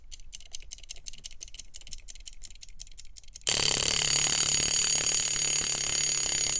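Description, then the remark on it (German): An Omegon Minitrack motorized tracking mount, carrying a camera used to photograph constellations, ticks in a quick, steady, clockwork-like rhythm, several crisp clicks per second, before a loud, dense, continuous wash of sound abruptly cuts in and covers it. “das Ticken zwischen Frage und Antwort ist kein Soundfile, sondern tatsächlich das Ticken unserer Omegon Minitrack-Montierung”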